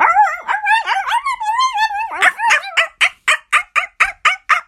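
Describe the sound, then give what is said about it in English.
A dog whines and howls for a couple of seconds, then breaks into a quick, steady run of about ten sharp, loud barks, with no one speaking. “I love dogs that bark.”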